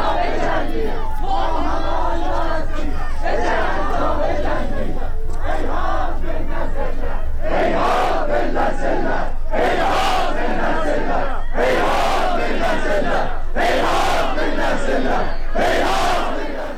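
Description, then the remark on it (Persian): A large crowd of mourners chants in loud, rhythmic unison at the funeral of Aylar Haghi at Vadi Rahmat cemetery in Tabriz, held under heavy security, voices rising in repeated bursts roughly every two seconds, with a steady low rumble underneath and no clear individual speech. “در تبریز عده زیادی از مردم در مراسم خاکسپاری آیلار حقی، دختر جوانی که روز 25 آبان کشته شد، در آرامستان وادی رحمت برگزار شد.”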